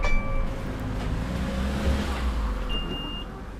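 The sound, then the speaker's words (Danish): A steady low engine rumble and road noise fill the inside of a moving bus travelling to a vineyard in North Zealand, Denmark, with faint high tonal whines drifting in and out and no voices. “Og jeg sidder lige nu i bussen på vej til Annisse Vingård i Nordsjælland”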